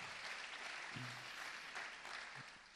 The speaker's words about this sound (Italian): Sei già stato accolto da un caloroso applauso.